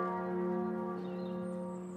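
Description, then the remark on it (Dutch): Church bells toll for Vermeer's funeral with a deep, sustained ring, their layered overtones humming steadily and fading only slightly over a couple of seconds. No voices are heard. “En naast de dragers zijn de klokken ook één keer geluid, als in een poos geluid.”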